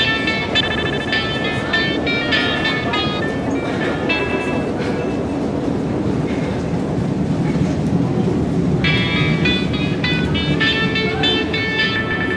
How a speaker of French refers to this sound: Lieu public, travelling. Place du marché des Capucins. Tunnel du tramway.